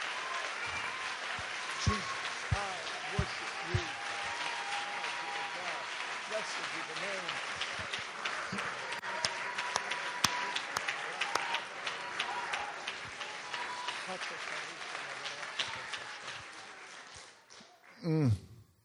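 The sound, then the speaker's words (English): A church audience claps in worship of the Lord in a sustained, dense burst of applause lasting well over fifteen seconds, with voices mixed into the clapping. It tapers off near the end, followed by a brief louder flurry. “If you believe that, really believe that, clap again and just worship the Lord for a moment.”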